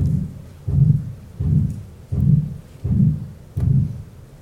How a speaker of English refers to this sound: And this is the regurgitation sound. So you get a little whooshing sound.